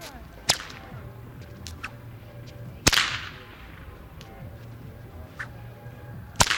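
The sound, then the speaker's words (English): Three sharp, loud cracks of a huge blue whip over a dozen feet long ring out at irregular intervals in a plaza, the middle one trailing a long echoing reverberation off a church and a movie theater, over a low steady background rumble. “grabbed a huge blue whip from a guy's pack on the other side. It was over a dozen feet long.”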